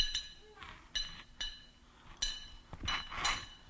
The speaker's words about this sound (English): They thought it was a knock on the door.